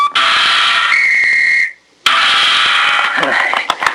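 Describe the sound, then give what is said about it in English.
A whistle is blown loudly in two long, shrill blasts separated by a brief silence, the second blast breathier and wavering toward the end, as part of a trick of tossing a ball in the air, turning a somersault and catching the ball on the nose. “I toss this ball high into the air, turn a somersault, blow a whistle, and catch it on my nose.”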